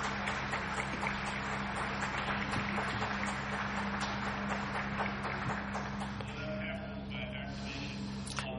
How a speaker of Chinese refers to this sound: 所以我们全部的人都已经一致鼓掌了，就表示我们通过了。